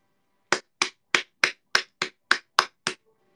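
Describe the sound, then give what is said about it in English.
A hand slaps a thigh nine times in a quick, steady rhythm, each smack sharp and fairly loud, with no talking in between. “Here's a good thigh slap for you guys.”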